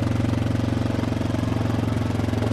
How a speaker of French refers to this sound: Tracteur à pelouse? Non, on est comme entre la moto et le tracteur à pelouse. Un VTT. Un 4 roues. OK. Yamaha. VTT. 600cc.